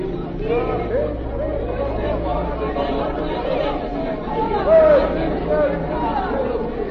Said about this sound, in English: The next day found a great crowd in the square of the capital. There were flags and shouts for peace.